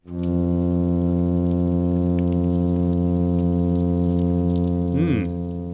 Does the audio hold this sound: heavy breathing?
no